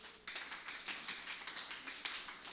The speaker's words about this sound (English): You see, let us applaud the prayer department. Come on, somebody.